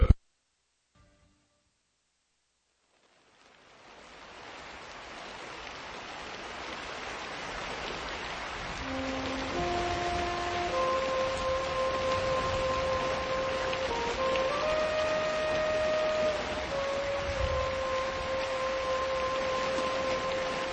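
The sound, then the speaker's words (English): Steady rain beating against a window fades in after a few seconds of silence and builds into a constant dense hiss, with soft sustained musical tones drifting over it midway through. “I could hear the rain beating against my window like a drunken drum solo gone terribly wrong.”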